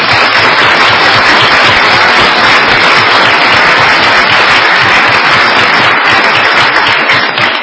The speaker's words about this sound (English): Okay. Well, big round of applause. Thank you.